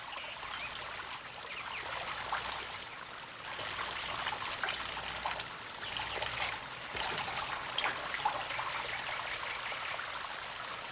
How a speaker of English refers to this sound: If, after it's been in there a little bit, you pull it out with the neck uncovered, then the water trickles out the little holes, making a small shower.